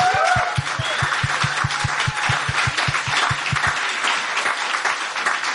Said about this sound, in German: Wie wär's, wenn wir einfach Jesus mit einem kräftigen Applaus begrüßen? Ja?